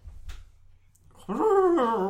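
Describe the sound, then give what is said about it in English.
After a quiet start, someone imitates a horse's whinny with their voice as a sound effect for the name Frau Bruckner from Young Frankenstein: a loud, quavering neigh that wavers in pitch, breaking into two shaky bursts at the end. “Because if you've seen the movie, you know that whenever that name is mentioned, horses whinny outrageously.”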